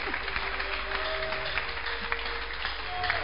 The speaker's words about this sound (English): Let's clap because we know what this thing means. It's only we that know.